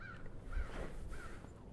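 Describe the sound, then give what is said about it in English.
Quite a few crows caw, two harsh calls separated by a short pause, faint against a low, steady outdoor rumble with no one speaking. “I don't know if you can hear the crows.”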